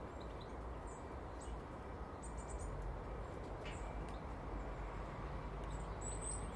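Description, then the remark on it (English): Scattered, faint high bird chirps come and go over a steady rush of outdoor background noise, a few short calls spread across the moment with no one speaking. “So loads of birds about.”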